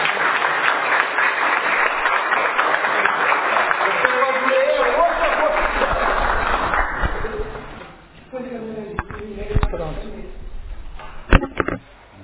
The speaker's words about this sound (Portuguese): Com a graça de Deus, o trabalho está encerrado. Vamos uma salva de palmas na próxima.